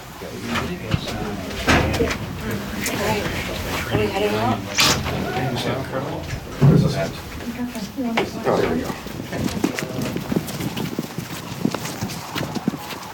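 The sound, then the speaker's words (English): A large flock of some 6,000 to 7,000 cranes, gathering on the ground with late arrivals circling to land, calls continuously, with many overlapping rolling, trumpeting cries rising and falling in pitch, forming a dense, loud chorus with a few sharper bursts standing out. “Cranes produce a very loud sound.”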